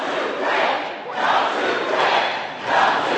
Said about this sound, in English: A day after a highly scrutinized press conference at the conclusion of the NATO summit in Washington, D.C., the president was back on the campaign trail in front of a raucous crowd in a high school gymnasium.